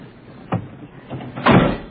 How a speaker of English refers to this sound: Can I close the door? Yeah, shut the door.